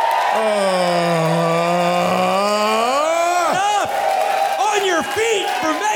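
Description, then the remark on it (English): A show audience cheers loudly and ironically at the mention of Megan McArdle, with sustained whoops and shouts sliding up and down in pitch over a steady crowd roar, and applause likely mixed beneath for several seconds. “That woman does not deserve your even ironic applause.”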